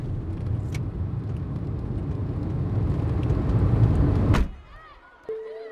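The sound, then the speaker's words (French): A car being driven too fast, its engine roaring loudly at speed for about four seconds, then cutting off abruptly, leaving quieter sounds and a brief steady tone near the end. “J'ai foncé dans la voiture, encore perturbé par ce cauchemar horrible. Et rouler trop vite pour être à l'heure à la sortie du collège.”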